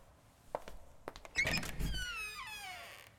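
A door is handled: a few soft knocks and thunks, then a long creaking squeal of hinges sweeping downward as it swings, ending in a quiet settle, as someone enters through a side door at a priest's invitation.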